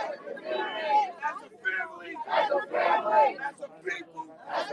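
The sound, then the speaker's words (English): Many overlapping voices from a protest crowd at the intersection of Livingston Avenue and Henry Johnson Boulevard in Albany chatter and call out at once, fairly loud, forming a dense, continuous babble with occasional raised shouts, as police officers move among the crowd talking with protesters. “Many moved among the crowd, engaging in conversation with protesters.”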